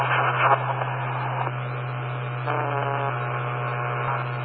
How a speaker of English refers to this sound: Somebody is deliberately interfering. I can't keep it up with you, sir. Handle it down. Take my call. We're going to go QRT until this garbage gets off the frequency.